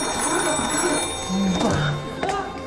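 An old dial-less crank telephone at a former railway station master's post rings in a continuous rattling burst, loud, lasting the whole moment, with faint voices behind it.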